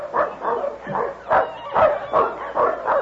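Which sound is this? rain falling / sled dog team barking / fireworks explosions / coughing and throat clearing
sled dog team barking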